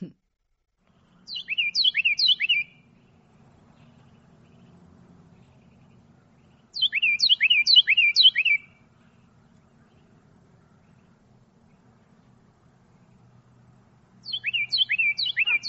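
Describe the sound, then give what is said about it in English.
A loud, clear songbird repeats a rolling three-syllable tea-kettle phrase several times in quick succession, with the song sounding in three separate bursts and quiet pauses between them over a low background hum. “the sound I think that you're going to play, Ann, probably sounds more like three syllables, like tea kettle, tea kettle, tea kettle”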